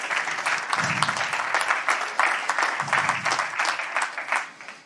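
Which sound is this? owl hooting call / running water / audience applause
audience applause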